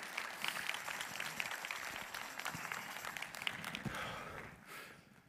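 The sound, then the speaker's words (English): An audience claps their hands together in praise of Christ in a dense, steady wash of applause lasting about five seconds, many claps blurring into a continuous crackle with no voices heard. “Today, someone give him a hand clap of praise in this room.”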